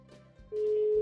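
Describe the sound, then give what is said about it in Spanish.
A telephone ringback tone sounds while waiting for someone to answer a phone call: a single steady electronic hum lasting about half a second, clear and fairly loud after a moment of quiet background. “A ver si contesta.”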